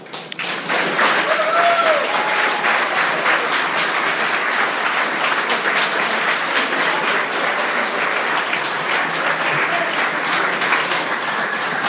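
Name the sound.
audience applause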